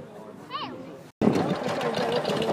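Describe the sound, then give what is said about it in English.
A stationary engine-driven thresher from the Southeast Stationary Engine Club runs at the Clonmel Show in County Tipperary, Ireland, on a sunny day, with a dense, steady mechanical clatter and hum, briefly cut off and then resuming louder and continuous. Faint voices murmur. “If you're a farmer and you've been farming for more than 20 years, you probably know the sound of this stationary equipment. So I'm looking at a thresher from the Southeast Stationary Engine Club.”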